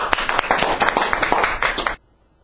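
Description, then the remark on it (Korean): An audience applauds with a dense, steady patter of many hands clapping for about two seconds, fairly loud, then the applause cuts off abruptly into silence. “예, 우리 박수로.”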